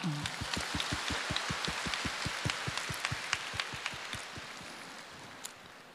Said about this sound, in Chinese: 鼓掌。